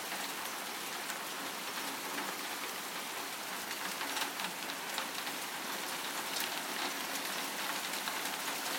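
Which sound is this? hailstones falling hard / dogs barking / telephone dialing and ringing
hailstones falling hard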